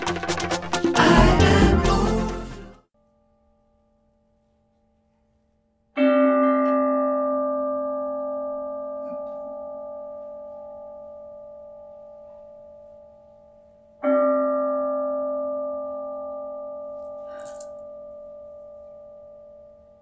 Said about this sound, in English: So with the sound of the bell, the invitation is to let our attention descend from our heads into our hearts and to consciously breathe and observe the spacious awareness in which we find ourselves,